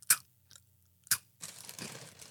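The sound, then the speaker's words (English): Crunchy chewing of a mouthful of dry Grill Munch cereal: two sharp crunches about a second apart, then a steady stretch of grinding, crackling munching. No one speaks. “Okay, you can eat the Grill Munch. Have fun. It's good. I hate cereal.”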